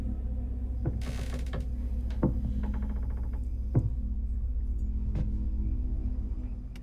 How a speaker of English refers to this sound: Jeffrey approaches the room, dragging his knife tip against the wall. Savannah hears the footsteps coming and leans against the wall.